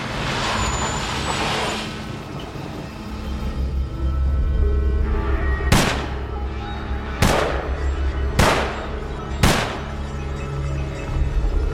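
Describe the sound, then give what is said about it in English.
Four sharp gunshots from one gun fired 4 times ring out about a second apart, loud, over a steady low rumble of traffic with a hissing burst near the start. “Tex shot the gun 4 times. Bang, bang, bang, bang.”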